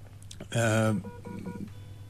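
A single loud electronic telephone tone sounds for about half a second, bright and buzzy with rich overtones, followed by quieter background murmuring.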